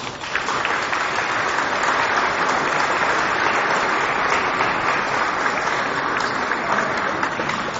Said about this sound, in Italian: Vi faccio anche un applauso.